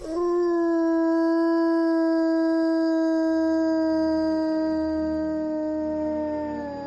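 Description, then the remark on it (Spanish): A single wolf howls in one long, steady, sustained note lasting several seconds, loud, with a rich harmonic tone that slowly fades at the end. “Escucha su aullido y la verdad que la piel se eriza.”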